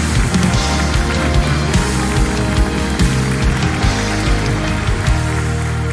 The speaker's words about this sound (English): We celebrate you. That's amazing. Let's clap a little louder, please. Let's welcome these into the family of God.